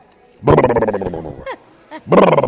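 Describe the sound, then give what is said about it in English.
An actor imitates monkey noises: loud, hooting, grunting vocal bursts with rising and falling whoops, a short call in the middle, then another loud rough outburst. “Is that monkey? It's not really monkey. That's more monkey.”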